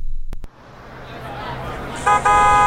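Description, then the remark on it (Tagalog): A jeepney horn honks loudly in two quick blasts, the second held longer, over a low rumble of street traffic. “Tara na, yun na yung jeep.”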